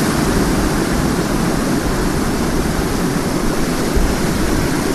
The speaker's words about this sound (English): All right, I'm above the waterfall.